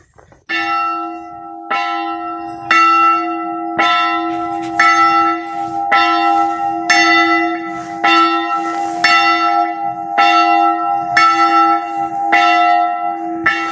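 A church bell rings loudly and steadily, struck about once a second in an even rhythm, each stroke blending into a sustained, shimmering hum. No voices are heard.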